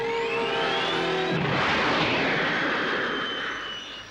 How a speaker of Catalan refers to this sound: Puja un helicòpter.